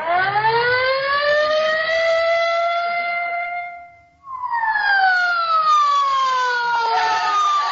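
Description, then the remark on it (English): A police squad car siren wails loudly as the car speeds away in a hurry, its pitch climbing in one long rise, cutting out briefly, then sweeping back down in a falling howl, with no voices over it. “Get in the squad car quick, Molly.”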